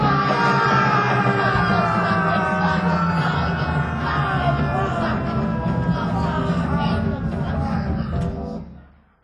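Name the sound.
man screaming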